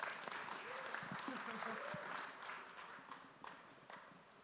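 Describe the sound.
An audience claps together in a steady, dense patter of many hands that stays fairly even for several seconds, then thins slightly toward the end. A faint voice murmurs underneath.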